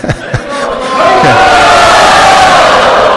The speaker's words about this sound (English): So please, let's give a big cheer. That's good, but that was a small cheer.